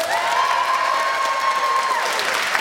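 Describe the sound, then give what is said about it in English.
Loud, sustained applause from a large audience voting that Ed and Fanshawe, and therefore Rowan, made the best case, a dense wash of many hands clapping with some whistling and cheering threaded through, steady throughout with no talking. “Yes, if you think Ed and Fanshawe and therefore Rowan made the best case, I'd like you to applaud now.”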